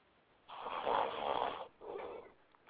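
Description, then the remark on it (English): Two drawn-out snores in a row from a caller on a phone line, the first long and loud, the second shorter, with a thin, band-limited telephone quality and no one speaking. “519, you snoring back there? You sleep?”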